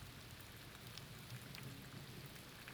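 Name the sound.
rain with distant thunder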